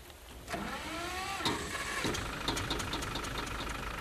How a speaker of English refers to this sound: This is Mr. Patterson's motor car. Not a very fancy automobile.